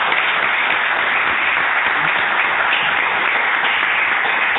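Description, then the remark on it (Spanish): Sustained applause from a crowd, a steady dense wash of many hands clapping at an even loudness throughout, with no one speaking over it. “Y evidentemente yo pido de verdad un aplauso para Juan, para Miguel, para Antonio, para todos vosotros y también para Joaquín, que es mi otro yo.”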